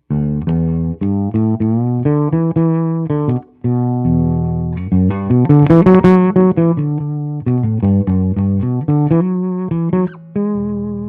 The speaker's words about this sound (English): … sound with the rear pickup. Pickup. I didn't swap it out for a DiMarzio. I kept the stock Fender Precision pickup, 1970 pickup in there, and this is how it sounds.